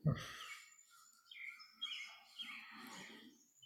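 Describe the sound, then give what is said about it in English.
Soft birdsong drifts through, with overlapping chirps and warbling phrases rising and falling for a few seconds, fairly faint after a brief low thump at the start. “And do you hear the birds still?”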